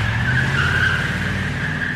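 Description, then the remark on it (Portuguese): A car engine roars steadily with a low rumbling drone while a high, sustained tire squeal rings over it for a couple of seconds, as if pulling away fast. No one speaks. “Combustível no tanque, pneus calibrados, ligando o carro para partirmos.”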